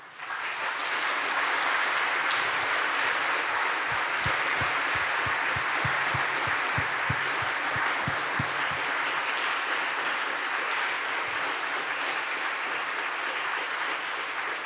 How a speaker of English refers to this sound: Well, first let me have them all stand and welcome them with applause.